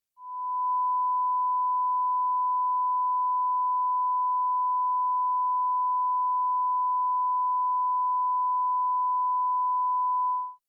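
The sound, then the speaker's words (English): A steady pure sine tone at a mid pitch sounds alone for about ten seconds, holding one unchanging loudness from a quick fade-in to a brief fade-out, with no other sounds. “For example, let's listen to a 1000 Hz tone at a constant level.”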